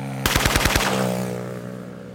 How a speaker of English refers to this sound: 2 weeks later, the same prison director is dead, gunned down by hitmen in a motorcycle drive-by shooting.